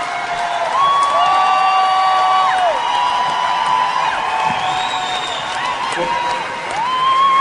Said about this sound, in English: Can I please get another round of applause for the orchestra?